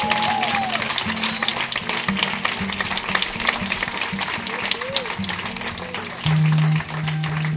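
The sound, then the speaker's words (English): A large crowd at a Christian worship service stands and claps continuously and energetically in praise to God, with scattered voices calling out over a steady low musical drone that swells briefly near the end. “Come on, stand up and give God a praise. Come on, you can do better than that. Clap your hands, all you people.”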